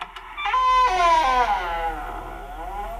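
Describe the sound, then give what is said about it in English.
The stiff hinges of a door in a newly completed, furnished rental home creak open in one long, loud squeal that wavers and slides slowly down in pitch, fading out over a couple of seconds with no one speaking. The door is unlocked with its only key and sticks a little. “Doesn't sound as though that door's ever been opened. Ah, well, a little oil on the hinges will fix that, all right.”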